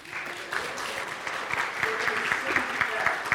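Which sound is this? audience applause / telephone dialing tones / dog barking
audience applause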